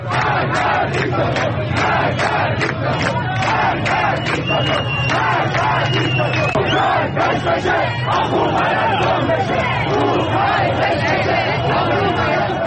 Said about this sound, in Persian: در تصاویری که بر روی شبکه‌های اجتماعی منتشر شده، شعارهایی از جمله مرگ بر دیکتاتور شنیده می شود.